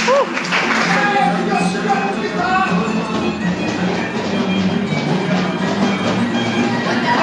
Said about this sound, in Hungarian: Kedves hallgatóink, most a rántott hússzag irányába haladunk, de a rántott hússzag előteréből csizmaverés és tapsolás hallatszik ki, és megjöttünk a néptáncra.